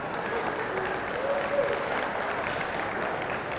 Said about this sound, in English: See, and all the old people are clapping. That is really the truth.